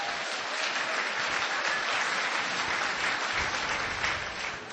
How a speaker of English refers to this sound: Can they see me or just hear me? Because let's hear from them. Can they roar from upstairs?